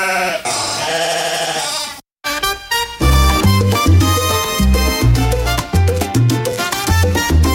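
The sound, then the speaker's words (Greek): A sheep lets out a loud, wavering bleat lasting about two seconds, followed by a brief silence before upbeat music with a heavy bass line starts. “Black Sheep, όπως το πρόβατο, το μαύρο.”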